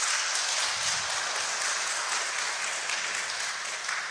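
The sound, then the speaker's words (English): A church audience applauds steadily for about four seconds, a dense, even wash of many hands clapping at once with no voices rising above it. “So let's round of applause.”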